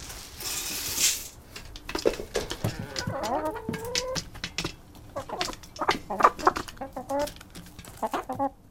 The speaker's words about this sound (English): There's nothing quite like feeding a flock of hungry hens on a frigid winter morning. Opening the coop door, it's a tumultuous affair full of cooing, squawking, and pecking.